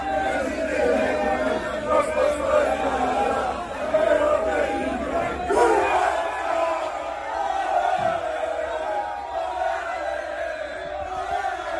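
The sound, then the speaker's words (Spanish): A large crowd of Croatian football fans in Zagreb, Croatia, backing their team at the World Cup, roars and chants in a dense, continuous wall of voices, with shouts and cheers rising above the steady din throughout. “Queremos ahora escuchar cómo suena Croacia. Así suena Zagreb.”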